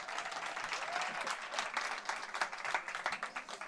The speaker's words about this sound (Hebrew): אחרי ששמו לך כפיים